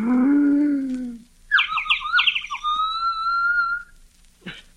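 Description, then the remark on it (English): A loon calls to its mate, echoing across a lake at eventide: a quavering, yodel-like tremolo that settles into a long, steady high wail, preceded by a brief low droning tone and ending with a short thump. “First, the call of the loon to its mate echoing across the lake at eventide.”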